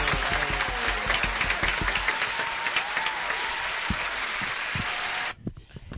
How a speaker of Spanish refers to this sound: Señoras y señores, el premio a mejor director, quiero que todos demos un aplauso